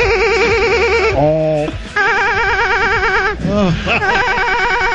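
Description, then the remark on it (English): A warbling electronic hotel phone ring trills steadily, interrupted twice by short bursts of a man's hearty laughter before the ringing resumes. “And this fight brought to you by Hotel Phone Ringing Laugh Guy.”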